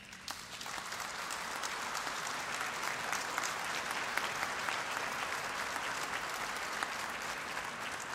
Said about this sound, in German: Wir haben heute Abend Jugendliche aus den Vereinigten Staaten zu Gast. Der Indianapolis Children's Choir hat wunderschön gesungen. Das ist ein Beifall wert.